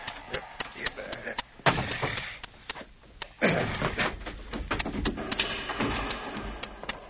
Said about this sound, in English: We'll toss him down into the mine for the time being. You lift the trap door.